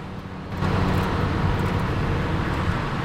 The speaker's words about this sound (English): He seems wrapped up in his thoughts as another car pulls alongside him in the overtaking lane. It's Styles. He stares at Harry, who turns and sees him. The two men lock eyes for a moment, then the car Styles is travelling in pulls past.